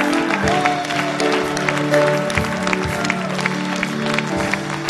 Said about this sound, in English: Give the Lord a mighty hand of praise, everybody. Come on, give the Lord a big clap.